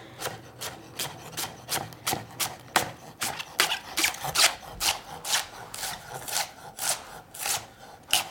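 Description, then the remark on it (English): A knife slices steadily through leeks, already halved lengthwise, into thin half moons on a cutting board, about two to three crisp, scraping cuts per second in an even rhythm, with no talking. “All right, so I'm gonna take my leeks and I'm just gonna slice them thinly into little half moons, since I've already cut them in half lengthwise.”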